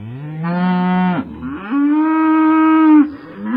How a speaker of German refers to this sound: Es geht um Landwirtschaft, es geht um Kühe. Und wenn ich jetzt das hier einspiele, sind wir alle sofort beim Thema.